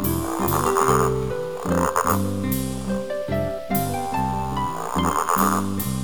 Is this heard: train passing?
no